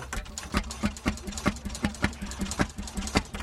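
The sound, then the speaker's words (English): An old gray and copper make-and-break engine, taking up about a quarter of a boat and being fiddled with, chugs with each sharp putt firing in a steady, slow rhythm of roughly three or four beats per second over a low mechanical hum. “He's fiddling with an old make and break engine in one of his boats.”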